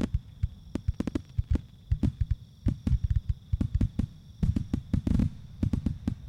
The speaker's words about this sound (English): Looks like they brought out the big ones this year. And look, fireworks in the shape of smiley faces.